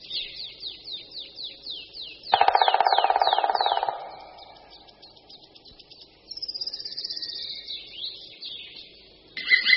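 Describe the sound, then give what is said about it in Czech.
A male black woodpecker's courtship call, given in the mating season, rings out as a loud 'kli kli kli' in a rapid series of high, ringing notes repeated in steady runs, with a brief buzzy rasp partway through and no voices. “Ke konci naší nahrávky se samec ozve ještě hlasitým voláním kli kli kli kli, které vydává v době toku.”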